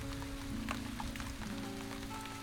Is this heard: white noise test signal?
no